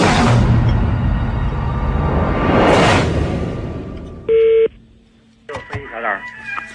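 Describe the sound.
A loud rushing whoosh fades out, then a single short electronic telephone tone sounds clearly, followed by a voice starting to speak over the line, on a phone call placed from France to China.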